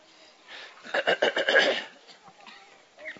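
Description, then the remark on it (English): A nilgai antelope, a tall, blackish animal, calls at Govardhan with a quick series of nasal, whinny-like pulses that rise and fall over about a second, followed by a few fainter snorts in an otherwise quiet outdoor setting. “Blackish in color, very tall, heads more shaped like a deer, but their bodies are the bodies of cows. Nilagai.”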